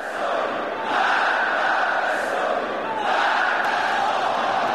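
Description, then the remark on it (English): A large crowd at a street protest in Tehran shouts and chants together in a dense, steady roar of many voices, swelling louder in repeated waves about every two seconds. “The crowds were out in Tehran again today.”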